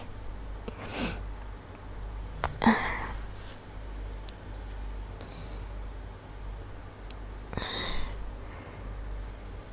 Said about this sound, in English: Oh my god. Why does this sneeze? Oh my god. Oh yeah, why the fuck am I sneezing?